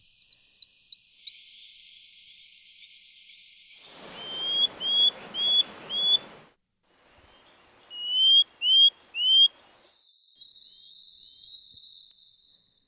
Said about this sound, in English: Honestly, to me, they do sound like frogs, which is what they are.